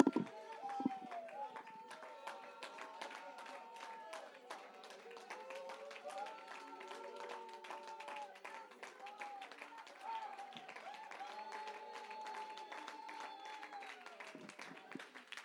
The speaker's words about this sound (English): Lift your voice. Shout unto the Lord. Don't stop clapping. Don't stop clapping.